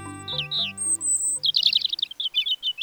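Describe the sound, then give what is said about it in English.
A migratory European robin sings: thin, high warbling phrases give way to a quick, bright run of trills and chirps, with soft sustained low tones humming underneath. “While a bird's eye view lets a migratory songbird like this European robin keep track of important landmarks along its route, a special protein in its eyes might let it see Earth's magnetic field.”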